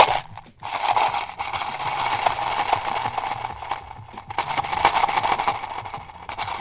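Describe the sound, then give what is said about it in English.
A large pile of collected old coins is stirred and shuffled by hand, producing a dense, continuous metallic jingle and clatter with scattered sharper clinks, fairly loud, without speech. “That's how much coins I have.”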